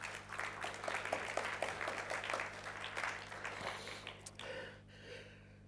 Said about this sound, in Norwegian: Du kan godt gi en applaus til for Jesus i dag.